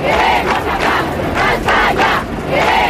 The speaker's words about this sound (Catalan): Tal día como hoy se organizaron concentraciones y manifestaciones por todo nuestro país con un grito unánime. ¡España!